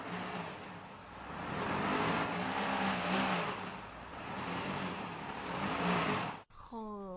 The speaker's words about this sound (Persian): صدای راه رفتن ماشین